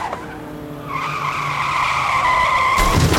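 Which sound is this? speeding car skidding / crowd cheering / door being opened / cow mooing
speeding car skidding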